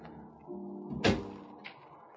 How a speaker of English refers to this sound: Open the door to the terrace, Mr. Collins. Now, we'll step outside. That's it. Close the door.